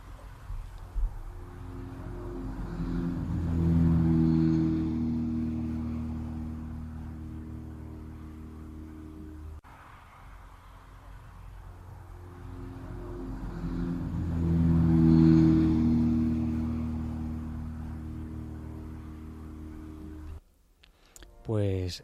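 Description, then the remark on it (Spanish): A low, droning airplane engine swells to a loud roar as it skims low over a bunker, then fades away; the same pass plays twice in a row. “Está repetida, escuchamos el avión.”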